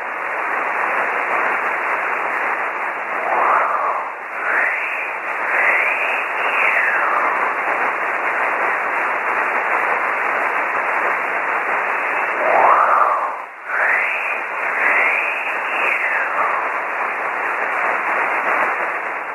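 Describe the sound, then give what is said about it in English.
Shortwave reception of a pirate radio station, probably Wolf Radio, dominated by a steady wash of band-limited static, with faint warbling tones and whistles sweeping up and down through the hiss and a brief dropout near the end. “Take one more last listen to this, but this is probably, in all probability, Wolf Radio.”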